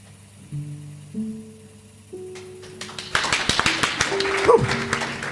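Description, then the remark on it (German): A few held musical notes step upward, then hand clapping breaks out, quick and uneven, continuing steadily to the end as the music fades. “Da hätte ich fast falsch geklatscht.”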